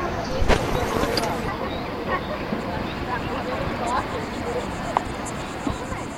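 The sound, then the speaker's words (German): A crowd at a public bath on the lakeshore in the Mittelland, heard from underwater, murmurs steadily, many indistinct voices blending into a soft, continuous babble, with a few faint knocks and splashes rising briefly above it. “Und die Badi am Ufer hört man auch.”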